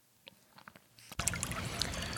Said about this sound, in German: Ja, und da hören wir gerade im Hintergrund den Heisterbach. Das ist ja der Heisterbach, das ist ein kleiner Bach hier im Siebengebirge. Das ist ein Kraftort und ja, den habe ich mal aufgenommen für eine Meditationsfolge, vielleicht erinnerst du dich.